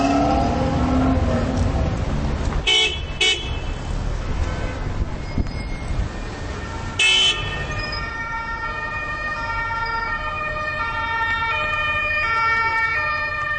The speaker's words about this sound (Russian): шум стал более интенсивным, стал где-то богаче. Автомобили. Это нормальная атрибутика любого современного города. Но их слишком много. И за ними теряются люди. Если мы на улице, то главные герои вот для меня – это именно вот эта машинерия.